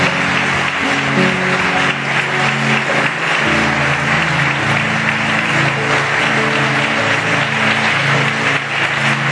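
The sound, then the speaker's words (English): A large audience at a church service claps loudly and steadily in applause to the Lord, a dense wash of applause filling the whole stretch, with sustained musical tones humming underneath. “Fuerte el aplauso, hermano.”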